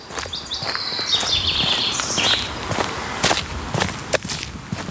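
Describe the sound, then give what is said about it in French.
Footsteps of a walker turning away from the town and its noise crunch along at an unhurried, slightly irregular pace over steady outdoor ambience, with birds chirping high and thin through the first half. No one speaks. “suivent les pas du marcheur qui tourne les talons à la ville et de son tapage”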